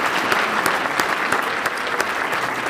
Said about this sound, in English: Great. That is the last question we have. So please join me in another round of applause for our presenters, Mayor Dan Sullivan and Superintendent Carol Coleman.